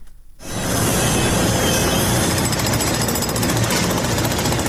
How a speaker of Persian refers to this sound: میبرند، میکنند و سوراخ میکنند. تقریبا پنج شبانه روز است که صدای ماشین‌آلات و ابزار نیروهای امدادرسان در شمال سوریه و جنوب ترکیه قطع نمیشود.